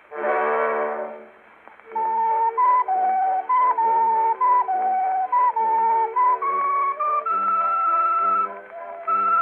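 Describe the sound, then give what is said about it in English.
A sweet potato whistle (ocarina) plays a simple stepwise melody of clear, breathy held notes, fairly loud, after a brief opening swell of a richer honking tone. “What do you call that? That carries a sweet potato whistle.”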